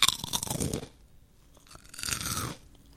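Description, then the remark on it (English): Two loud bursts of crisp crunching, like someone biting into and chewing crunchy food, separated by a short quiet pause, with no talking. “evaluation of crunchy and crispy texture from issue number 01 of The Perfect Crunch International Journal.”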